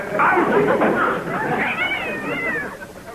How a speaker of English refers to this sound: There's that pesky cat of Mrs. Elkins again. Scat! Get out!